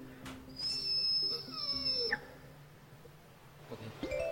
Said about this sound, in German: Der hält den Rekord für die höchste gesungene Note. Und zwar ist das E in der 8. Oktave. Und das klingt tatsächlich wie ein alter Wasserkocher, wenn das Wasser fertig ist.